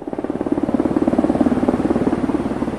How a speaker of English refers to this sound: After Colombian Air Force planes bombed the rebel camp, helicopters hovered just above the treetops and dropped the troops into the jungle.